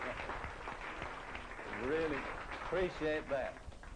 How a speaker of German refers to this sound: Großartig. Du hast dir einen Applaus verdient.